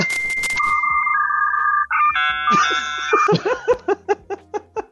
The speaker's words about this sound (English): The sounds the modems would make.